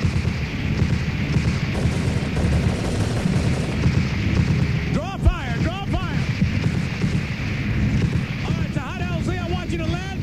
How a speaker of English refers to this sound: And so we flew low over the crowd, strafing the enemy.